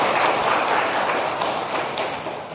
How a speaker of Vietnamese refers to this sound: Cho một tràng pháo tay ha.